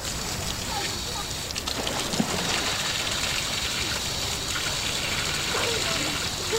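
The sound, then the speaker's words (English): Water splashes and churns continuously in a swimming pool on a hot summer's day as people relax in the cool water, a steady wash of moderate loudness with occasional brighter splashes, while indistinct voices murmur. “Relaxing in the cool water, perfect for a hot summer's day.”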